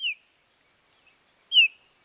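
Two sharp, downslurred whistled calls of a white-tailed kite, about a second and a half apart, with a few faint chirps between them; no voices.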